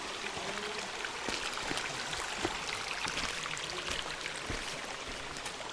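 water flowing

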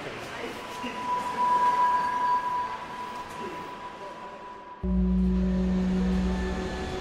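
subway train riding

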